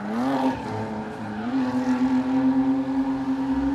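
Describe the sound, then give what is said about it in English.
Car tires squeal in a steady, loud, continuous whine as a vehicle spins donuts at Irwindale Speedway, with engine roar underneath and no voices. “Irwindale Speedway as cars zoom down the drag strip and burn rubber in the burnout box, and drivers squeal around in donuts.”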